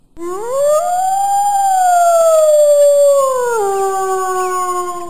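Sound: wolf howling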